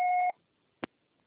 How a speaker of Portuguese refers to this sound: Após o sinal, grave sua mensagem.